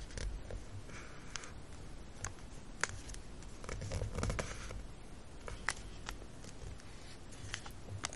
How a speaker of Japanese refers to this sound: 次にまた一番上の部分を先ほど折り込んだ折り目の部分に向けてもう一度折ります。そして先ほど折り目をつけた部分をもう一度折り込んでいきましょう。